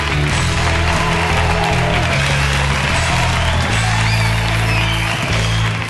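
An audience bursts into a sustained ovation for comedian Diego Fabián, dense clapping and cheering holding loud and steady for the whole six seconds, with low sustained tones humming underneath.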